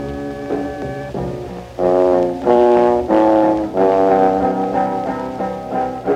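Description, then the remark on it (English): A Viper car security alarm siren blares loudly, cycling through a series of harsh, buzzy tones that shift in pitch every second or so, with no one speaking. “This is a warning. Step away from the car. This car is protected by Viper.”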